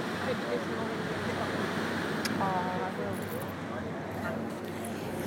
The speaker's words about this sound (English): So I hope you can hear the waves. Oh, you can even smell the ocean.